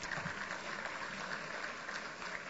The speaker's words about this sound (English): Xiomara Colombian Dance Academy. Let's give them another round of applause.